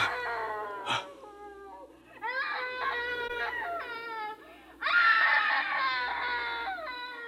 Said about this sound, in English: It's her, Dad. It's the screaming woman.